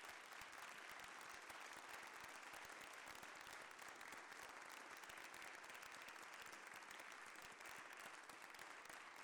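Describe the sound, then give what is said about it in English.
People in the Iowa Senate chamber applaud steadily to welcome visiting families, a dense patter of many hands clapping at an even loudness for several seconds, with no voices rising above it. “If you could all welcome them with a round of applause to the Iowa Senate.”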